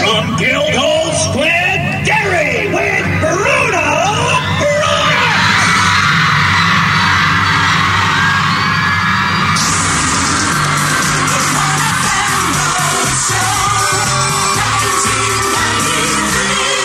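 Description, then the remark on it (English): A large live crowd of thousands of people at the 1FM Road Show cheers and yells loudly and continuously, with whoops and shouts rising over a dense roar that swells and stays sustained throughout. “Got a great crowd here, there's no two ways about that.”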